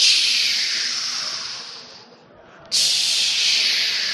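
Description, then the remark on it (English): Dense, bright radio static from lightning sferics picked up by a live tree used as an antenna, a steady high-pitched hiss that fades and nearly drops out midway, then snaps back abruptly at full loudness. No voices. “But that antenna picks up not just 50 hertz, but what's coming from the sky, like space weather, something called spherics.”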